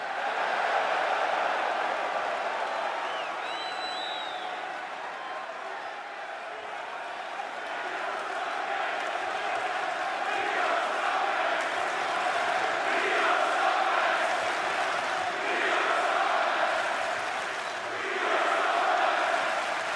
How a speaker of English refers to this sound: Granted, I understand it's essentially the same unappreciative crowd full of scumbags from last night.